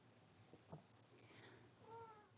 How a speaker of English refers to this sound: Damn it. Hang on, bitty cat.